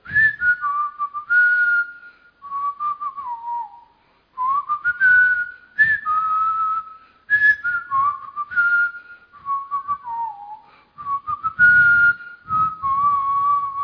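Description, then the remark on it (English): Someone whistles a wandering melody, clear notes sliding between pitches in several short phrases with brief pauses between them, with no talking. “You are just whistling everywhere.”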